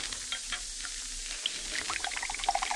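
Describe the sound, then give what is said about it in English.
Del Monte tomato juice, just opened with an opener, pours into a glass in a steady, hissing stream, turning into quick gurgling glugs that climb in pitch as the glass fills. No one speaks. “Hey, Del Monte tomato juice. That's for me. Opener. Glass.”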